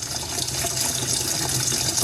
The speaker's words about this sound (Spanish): Y pues en este proceso una de las personas que me acompaña siempre está ahí jugando con el agua de la pileta y abriéndole a la llave para que haya más agua y yo seguir lavando. Pues es mi hija, siempre está ahí conmigo.